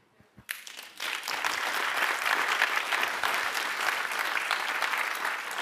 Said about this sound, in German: Mit Ihnen und mit allen, die Beifall geklatscht haben, bin ich der Meinung, das ist schon ganz schön gut, dass wir die gesetzliche Rentenversicherung haben.